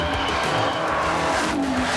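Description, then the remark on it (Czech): A 1949 CIS Italia racing car with a 12-cylinder supercharged engine roars loudly and steadily, its pitch climbing toward the end as it revs, with no voices over it. “CIS Italia baut einen Rennwagen mit 12-Zylinder-Motor und Kompressor.”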